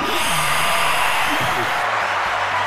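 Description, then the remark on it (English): A steady wash of canned applause, dense crackling claps at an even, loud level for the whole stretch, with a faint voice murmuring underneath. “Canned laughter. Yeah. Canned applause, rather.”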